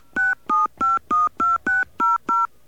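Eight crisp touch-tone beeps as a phone number is dialed into an automated phone message line, each a short steady dual-pitched tone separated by brief silences in an even, quick rhythm, with no one talking.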